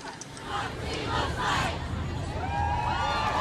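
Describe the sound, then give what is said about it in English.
A large crowd of protesters at the Supreme Court shouting and chanting together, a dense roar of many voices with rising cries and a few higher-pitched calls standing out, steady and loud throughout. “when people call it a mob because they see images that are specifically crafted to inflame”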